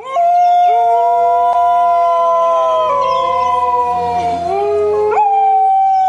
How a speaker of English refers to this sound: Dingoes are descended from South Asian wolves. They rarely bark, but tend to howl.